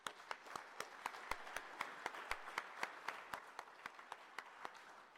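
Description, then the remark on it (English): An audience at a building safety event applauds the sponsors and organizers steadily, a dense wash of clapping with individual sharp claps popping out in a fairly regular rhythm, sustained at an even level for several seconds with no voices. “So I wanted to first give a round of applause to those folks, the sponsors and the folks that did the hard work to make this happen.”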